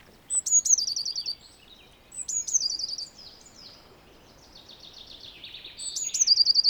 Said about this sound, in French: La mésange bleue, on va l'entendre un petit peu partout.